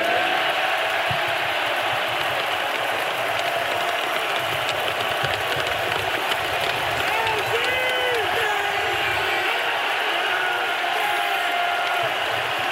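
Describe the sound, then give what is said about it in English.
A huge arena crowd at Fiserv Forum roars steadily, a dense wall of cheering with rhythmic chants of "MVP" rising out of it and a few louder shouts near the middle, as Giannis Antetokounmpo is given the Finals MVP trophy on the floor. “Chanting MVP now in Fiserv Forum.”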